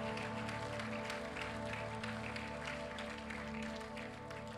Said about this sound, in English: Would you clap your hands one more time and thank the Lord?